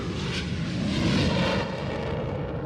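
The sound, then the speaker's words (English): A steady airplane engine drone heard aboard a passenger plane flying from Montreal to Italy, a continuous low rumble with a broad hiss above it, holding at an even loudness throughout with no voices. “On the plane, the stewardesses fielded our requests.”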